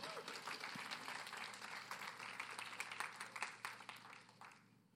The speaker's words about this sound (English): Thank you very much. Please clap for these wonderful people.